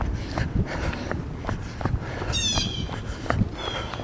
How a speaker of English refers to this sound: You can hear the birds and seagulls accompanying me on the jaunt this morning.